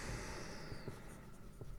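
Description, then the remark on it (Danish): Quiet scratching of a pen in a colour other than blue moving across paper in short strokes, with a soft continuous rustle and no voices. “Jeg tager en anden farve end en tårten blå. Det skriver jeg herovre.”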